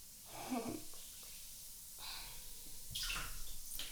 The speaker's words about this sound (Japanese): この入浴剤で入るとホッとする。はあ、極楽。さすが炭酸が強いバージョンがある。まだ炭酸がプクプクしとる。